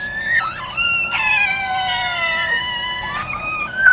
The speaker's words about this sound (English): This first clip is of the family cat, Samantha, and her kittens. I held a bowl of food above them until they all meowed in unison. It's a family favorite.